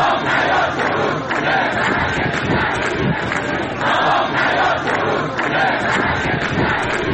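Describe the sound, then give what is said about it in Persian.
Thousands of protesters, Isfahan farmers, chant slogans in unison on the dry bed of the Zayandeh Rud river in Isfahan, Iran, on a Friday, demanding the river's revival; many voices shout together in a steady rhythmic pattern that stays loud and dense throughout, with repeated swells every second or so. “هزاران تن از معترضان در این تجمع که در بستر خشک زاینده رود برگزار شد با سر دادن شعار خواستار احیای این رودخانه شدند.”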